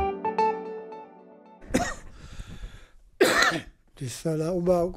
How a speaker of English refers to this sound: Whenever I cough, my chest feels very dry. It feels as if there were dust in my lungs. I want to get rid of it, but it doesn't come out.